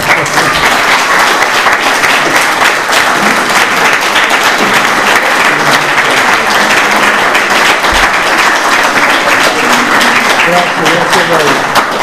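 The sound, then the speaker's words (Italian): Sustained applause from a crowd for a lecture, a dense, steady patter of many hands clapping for about twelve seconds, with faint voices murmuring underneath. “siamo debitori a professor Battaglini, non abbiamo neanche applaudito la relazione”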